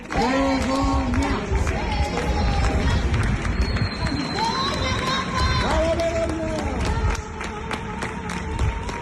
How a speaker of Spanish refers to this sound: Hay quien ha cantado hasta ópera con el aplauso de sus vecinos.